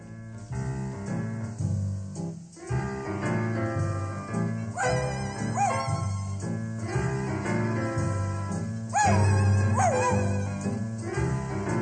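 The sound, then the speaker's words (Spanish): A lively dog song with steady accompaniment, about a little dog with a toothache, punctuated by repeated dog-like yips and whining whimpers that rise and fall, several close together, sung or played along with the music. “Torongo vio que Soppy dudaba, así que para darle un colchoncito a su cerebro, dejó caer sobre el rodador una canción perruna.”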